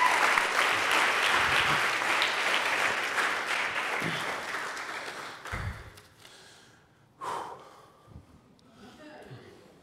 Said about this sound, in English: And if that's what you want, give Jesus an applause. Come on.